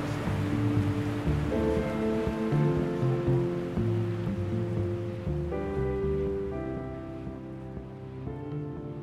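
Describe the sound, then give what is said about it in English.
A loud, steady rush of a long, clean, programmed surf wave breaking and rolling along in a wave pool, with a continuous humming mechanical drone running underneath the whitewater roar throughout. “I have all the kind of natural feelings of, God, I wish I'd got that wave, and hope he doesn't blow it, and look how long that wave's going, and this is all, you know, this is programmed.”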